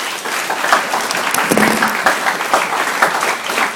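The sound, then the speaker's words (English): A crowd applauds steadily, dense clapping filling the whole stretch at a loud, even level with brief sharper claps poking through and no one speaking. “Can I just get a round of applause for that?”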